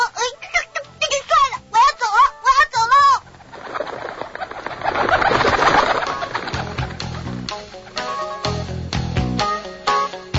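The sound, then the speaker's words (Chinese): A robin chirps as it flies away: a quick series of bright, warbling chirps repeats for about three seconds, fairly loud, before giving way to a busy, swelling musical backdrop. “知更鸟实在是不明白稻草人为什么要这么生气，他只好又啾啾啾地飞走了。”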